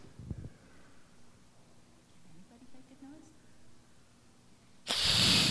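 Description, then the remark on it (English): A person gives a short, loud, breathy hiss in imitation of an angry cat, bursting in near the end after a stretch of quiet room noise and faint murmuring. “Who can make a noise like a cat makes when it's not happy?”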